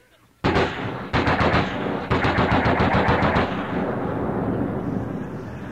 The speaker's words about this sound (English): Somebody opens up with a machine gun.